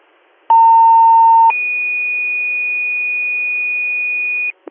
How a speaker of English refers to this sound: Give me one more side tone, please. Received. Then you can all show me.